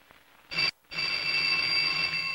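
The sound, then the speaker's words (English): A telephone rings with a bright, high, metallic buzz: a short burst, a brief pause, then a longer continuous ring that carries to the end. It is the phone Marlowe answers from bed. No voices are heard. “In bed, Marlowe answers the phone.”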